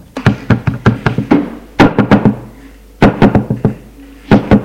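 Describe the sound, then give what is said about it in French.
Loud knocking on a toilet door by a woman: several bursts of quick, hard raps separated by short pauses, with no voices. “Elle frappe à la porte des WC.”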